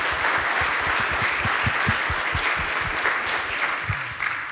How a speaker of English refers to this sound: we can clap for them. Great. Thank you.